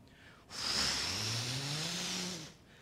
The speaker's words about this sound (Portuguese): Vocês já ouviram o som da turbina de um avião?